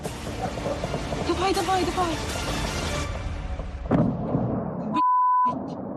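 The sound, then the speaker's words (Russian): Rumbling booms and bursts of explosions as a kamikaze drone is being shot at roll through noisy outdoor air, with one sharper blast near the end while people talk excitedly over it. “Сбили? Нет, сбивают. Сбей его.”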